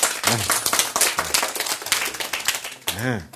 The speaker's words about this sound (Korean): 박수. 아, 박수.